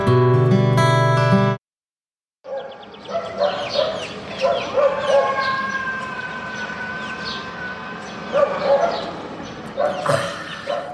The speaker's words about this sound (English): Sound of a campground full of pets.